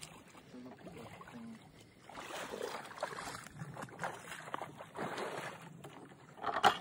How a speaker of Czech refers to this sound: Jsme na směrovém místě, už jsme na Jihlavě 5B, na spodním úseku, vlastně u Biskupského mostu, tak se jdem na to podívat. Tam se na to podívat, jaké hodnoty tady máte. Tak, nabíráme vodu na druhém místě.